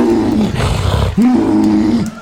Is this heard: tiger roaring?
yes